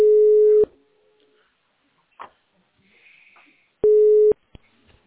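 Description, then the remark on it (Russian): A telephone line tone sounds twice while a call is being transferred, as steady, loud mid-pitched beeps about half a second each, separated by a few seconds of near silence with faint clicks and line noise. “Сейчас переведу.”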